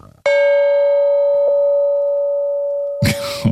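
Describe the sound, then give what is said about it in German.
A gong is struck once, loud, its bright metallic tone ringing steadily for nearly three seconds before a voice briefly cuts in at the end. “Ich habe extra den Gong mitgebracht, obwohl es gibt hier jede Menge große Töpfe, die wahrscheinlich einen ähnlichen Sound machen würden.”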